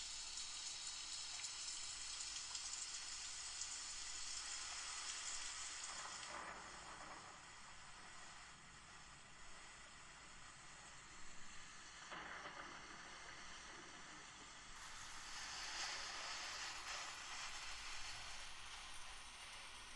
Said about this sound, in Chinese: 这个鬼天气，怎么说下雨就下雨啊？